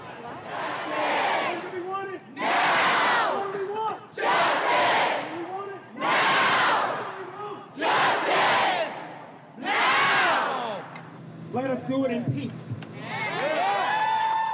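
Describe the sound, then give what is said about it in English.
A packed outdoor crowd on the Fayetteville Square at night chants together in loud, rhythmic bursts, about eight shouted phrases in a steady cadence, giving way to scattered voices and babble near the end. “So I couldn't really tell until I went out into the crowd, and it was packed.”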